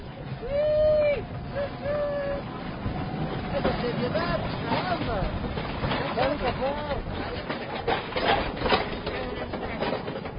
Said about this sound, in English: Okay, get off the truck, trolley now is coming. There's an electric trolley coming along.